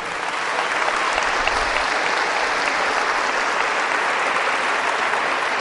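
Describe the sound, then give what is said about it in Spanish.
Sustained applause from an audience, a dense, steady patter of many hands clapping at an even loudness for several seconds, with no voices standing out. “Los nombres son cambiados, pero por favor denle un aplauso a María Clara.”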